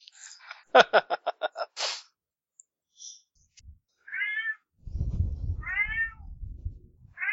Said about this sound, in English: That's right, cat. The cat I agree agrees. completely, cat. Chill out. Who let this cat in our speeder? I like him. I can't seem to get rid of it. It follows me everywhere.